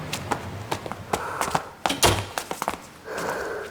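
Someone stamps and knocks their shoes to shake off snow before entering a stairwell in cold weather: a quick, uneven series of dull thuds and taps, with a couple of brushing scrapes between them and no talking.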